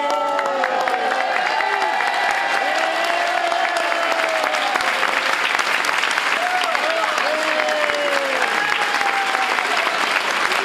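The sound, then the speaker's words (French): Two minutes of sustained applause from a large audience at the PLR party in a hotel hall in Bern, a dense, steady patter of clapping that stays loud throughout, with faint voices and scattered shouts threaded underneath. “Deux minutes d'applaudissements, méritées, nous dit-on.”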